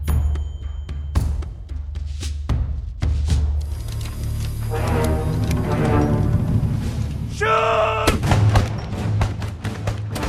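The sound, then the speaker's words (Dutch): A chaotic battle in which Tula and his men fight hundreds of soldiers armed with guns and cannons: sharp gunshots crack out in bursts over deep, booming cannon blasts, with shouting voices and a continuous low rumble filling the background. “Tula en zijn mannen maken geen schijn van kans tegen de honderden soldaten met geweren en kanonnen.”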